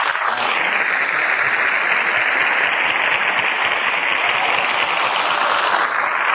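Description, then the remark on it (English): A steady, dense burst of audience applause, many hands clapping together in a loud continuous roar that holds for about six seconds, with no voices on top, as Fred Allen is introduced in person at the old town hall. “Even with the applause card upside down, I've been upset all day.”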